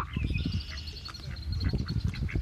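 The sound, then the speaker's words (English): A group of ducks quacks steadily in a dense, overlapping chorus, with thin high bird chirps running above it. The sound is outdoors, moderately loud, with no talking. “You're probably hearing the ducks in the background, by the way.”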